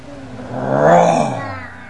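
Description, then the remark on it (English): A person's voice imitates a lion's roar, one drawn-out, rising and falling growl that swells to a loud peak mid-way and then trails off, alone. “Roar! It was a lion.”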